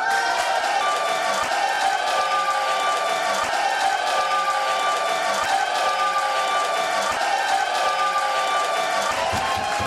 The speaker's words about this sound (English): The crowd cheered when our supporters stood up to cast their votes.